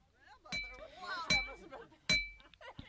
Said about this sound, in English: So we packed up our hammers and headed for Upper Black Eddy, PA, which is not too far from the Delaware River. And there's a boulder field there where the rocks really do ring like bells.